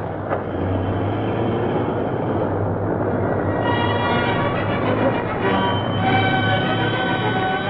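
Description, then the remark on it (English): A plane's engine drones loudly and steadily, its pitch climbing partway through as it revs up for takeoff, with no voices. “I'm going to run this car into the path of that plane before it leaves the ground.”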